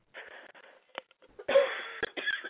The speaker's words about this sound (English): Sorry, got a coughing fit going.